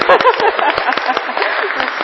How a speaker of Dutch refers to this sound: Nou, applaus voor de die-hards, hè? Ja.